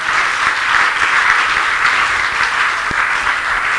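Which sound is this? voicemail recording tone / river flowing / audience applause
audience applause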